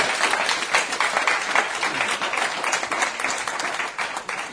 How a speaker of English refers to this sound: I'd like to thank you all for coming for these two sessions we had this afternoon. If you could please give Prime Minister Rudd a round of applause for a terrific presentation.